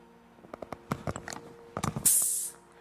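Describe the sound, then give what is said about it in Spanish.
A series of sharp metallic clicks and taps as a pastor handles a soda can, then the tab pops and a loud burst of fizzing hiss follows for about half a second before fading. “porque yo sí escuché una grabación del pastor abriendo cuando tomaba soda.”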